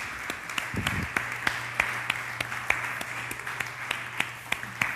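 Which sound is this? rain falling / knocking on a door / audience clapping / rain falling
audience clapping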